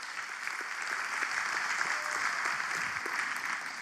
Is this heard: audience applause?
yes